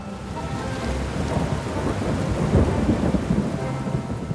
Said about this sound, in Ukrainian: Але ж зараз такий сильний дощ.